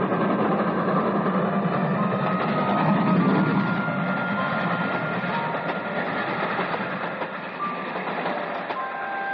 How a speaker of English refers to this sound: And a brilliantly lighted express train shook the switchman's cabin as it rushed by with a roar like thunder.